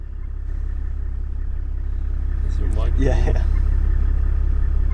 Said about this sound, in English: We're driving through this really tall, thick grass that kind of enveloped the car. It was almost like we were driving through a cloud. So this is the Kalahari sour grass. It's real thick. It's almost like the mice can run on top of it.